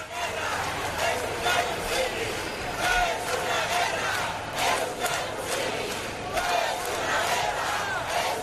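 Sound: protest crowd chanting slogans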